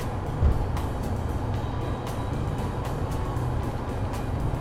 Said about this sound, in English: Alright, we're on the Pulaski Skyway now, or the Pulaski Speedway, as I like to call it. In the left lane, and if things are correct, I'm doing about 60 miles an hour. Going over this fucker.